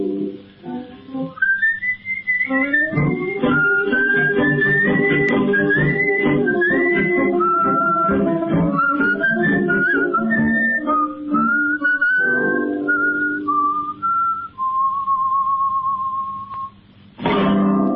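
A man whistles a lilting tango melody, the bright tone gliding and trilling over a band accompaniment for the full length, fairly loud, with a short pause near the end.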